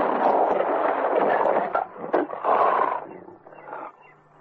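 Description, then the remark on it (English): A lion lets out a loud roar as it jumps, a rough, sustained snarl that surges twice before trailing off, with no voices over it. “He raised his rifle, and at that moment, the lion jumped.”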